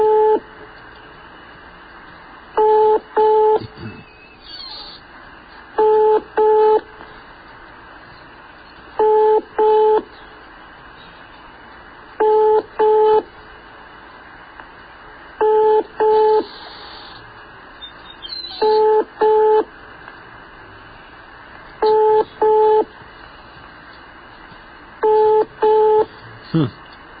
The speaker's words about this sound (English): Well, I mean, it's ringing.